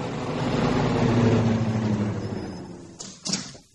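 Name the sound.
car approaching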